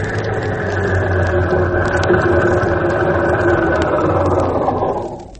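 A car engine idles with a steady, fairly loud low rumble, running continuously for several seconds before trailing off at the very end. No one speaks.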